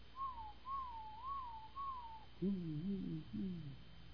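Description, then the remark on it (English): A person imitates a pigeon cooing: four short, higher warbling coos in a steady rhythm, followed by three deeper, throaty rolling coos, fairly quiet. “And the pigeon just kept going”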